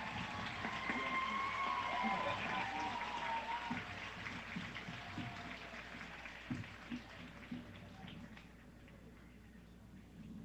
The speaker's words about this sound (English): Please give this tremendous group a round of applause.